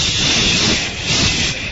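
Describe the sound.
A person makes a long, steady hissing sound with their mouth, like air escaping from a pricked, deflating balloon. It is loud and lasts under two seconds, with a slight swell partway through.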